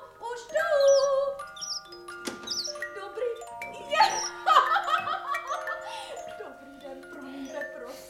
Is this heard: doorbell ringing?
yes